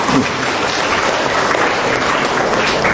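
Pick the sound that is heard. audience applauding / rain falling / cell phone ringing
audience applauding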